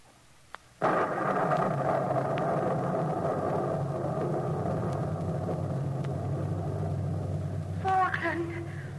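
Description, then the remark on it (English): A deep, steady rumble of thunder in a night storm suddenly swells up after a brief quiet start and rolls on continuously, with a voice breaking through briefly near the end. “Where are you waiting, Falkland? Soul, in the thunder of the night, why do you weep?”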